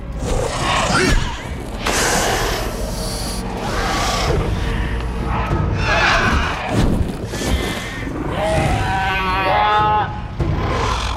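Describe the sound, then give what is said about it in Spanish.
A flock of Ikran, winged creatures, screeches loudly and continuously toward Jake over a dense, rushing wall of noise, ending in a shrill, wavering shriek as most of them fly off. “La mayoría grita hacia Jake y huye volando.”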